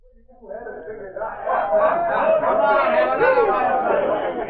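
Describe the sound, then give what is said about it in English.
A lively, celebrating crowd chatters in the Nugget Cafe in Dawson, many overlapping voices rising and swelling into a steady, energetic din with bursts of laughter mixed in. “It was a few weeks later when Sergeant Preston entered the Nugget Cafe in Dawson and found an exceptionally gay and lively crowd assembled.”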